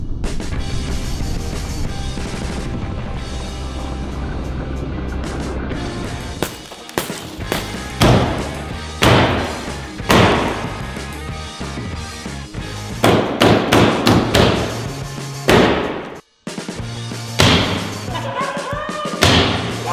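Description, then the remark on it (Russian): A series of light blows strikes a car wrapped in about 148 tightly stretched rubber bands, producing sharp thuds and knocks at an irregular pace, some in quick bursts, after a stretch of dense steady noise at the start. “Сейчас мы будем потихонечку легкие удары наносить по машине.”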